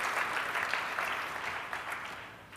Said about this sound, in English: All right, and with that, I want to give Stan another round of applause.